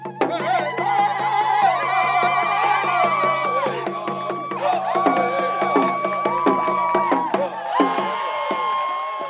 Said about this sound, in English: And then protesters pushed through the gate and actually climbed up on the pedestal where the statue had been before. And there was, you know, dancing and drumming and singing.